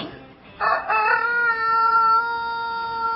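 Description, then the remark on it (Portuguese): Galope, the rooster of Tropa, crows once, loud, a long drawn-out cock-a-doodle-doo that rises sharply and then holds a steady, strained note to the end, with no talking. “É o galo do Tropa. Vai acordar o Pacheco na padaria lá no Cururupi.”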